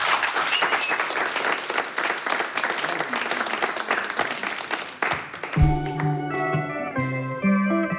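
A studio audience breaks into dense, steady applause for about five seconds; then the clapping thins as a band strikes up, with sustained bass and keyboard-like tones taking over.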